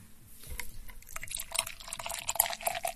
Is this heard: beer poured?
yes